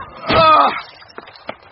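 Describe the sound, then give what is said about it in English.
A loud, strained cry or heavy shove against a stuck door, followed by two sharp bangs spaced a moment apart, as someone struggles to force it open. “Door's stuck!”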